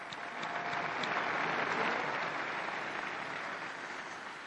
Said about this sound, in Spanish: Su ejemplo nos haga más generosos y valientes en el vivir el Evangelio, y un aplauso a los nuevos beatos.